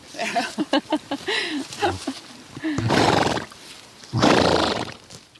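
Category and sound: animal, horse whinnying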